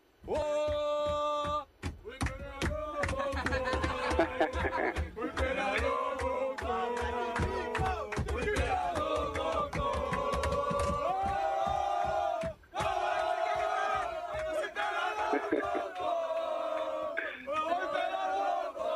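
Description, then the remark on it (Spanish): A team on its bus chants a song together loudly and energetically, with rhythmic claps or beats driving steadily underneath for the whole stretch, pausing briefly near the end. The chant, sung partly in Brazilian Portuguese while celebrating a title, is for Lisandro, likening him to Adriano, 'the Emperor'. “¿Qué intrahistoria tiene este cántico, Carlos?”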